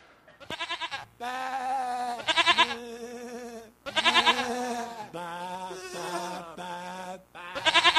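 Several loud, quavering lamb bleats sound in close succession, overlapping in a wavering, nasal chorus with brief gaps between the calls.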